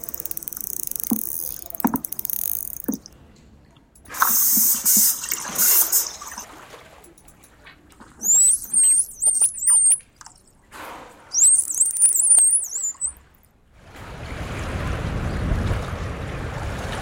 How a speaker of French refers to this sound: Et on a la dernière catégorie, qui s'identifie très facilement à l'oreille humaine, qui sont les sifflements. Donc trois catégories, les clics, les sons pulsés en rafale et les sifflements.